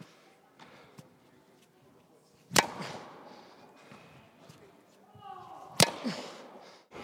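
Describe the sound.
Two sharp, loud pops of a tennis racket striking a ball, roughly three seconds apart, each with a brief ringing tail, over a low murmur of background voices.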